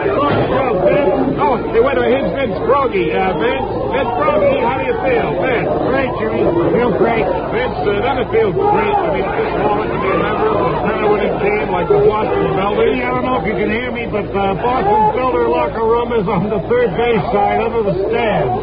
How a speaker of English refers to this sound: I wonder if it's as noisy over there, because the din here is terrific.